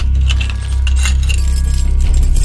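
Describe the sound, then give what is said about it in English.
Keys jangle and clink together in a continuous metallic rattle, fairly loud, over a low steady rumble in the background. No one speaks. “Now, the keys.”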